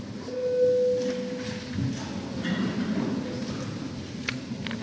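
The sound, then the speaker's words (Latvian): A single steady electronic signal tone, the parliamentary bell called before a vote on a bill, sounds for about a second, clear and moderately loud, over a low murmur, followed by faint higher tonal blips. “Lūdzu zvanu.”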